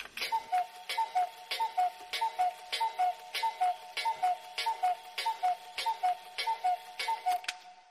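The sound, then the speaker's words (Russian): A clock in a large room strikes twelve times in a steady, evenly spaced series of short, bright chimes, clear, with no voices. “Она не обратила внимания, что часы в большой комнате пробили 12 раз.”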